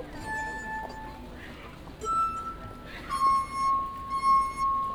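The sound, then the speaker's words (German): Wet fingers rub the rims of drinking glasses, drawing out sustained, pure ringing tones that swell and fade, shifting between a few different pitches over several seconds. “Siehst du, dann reibt sie so leicht über den Rand der Gläser und sie spielt.”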